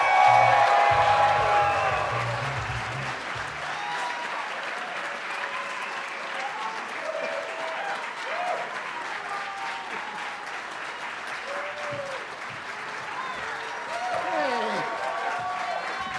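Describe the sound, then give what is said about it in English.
An audience at a comedy festival breaks into sustained applause for four comedians being introduced, a dense wash of clapping with a few cheers and voices mixed in, staying loud and steady for about sixteen seconds. “Please give it up for”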